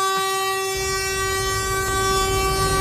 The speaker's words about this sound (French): Le problème quand tu fais du stand-up dans la rue, c'est les bus.